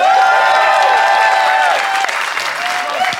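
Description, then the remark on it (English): A crowd applauds loudly and steadily for a few seconds to vote for the side they think made the best case, a dense wash of clapping with some cheering voices mixed in, dipping slightly partway through before carrying on. “If you think Ian and Ben made the best case, applaud now.”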